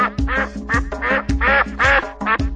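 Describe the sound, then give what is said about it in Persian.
Four ducks quack in a quick series of about seven loud, nasal calls, coming in uneven bursts with no talking. “چهار تا اردک اینجا کواک کواک میخونن.”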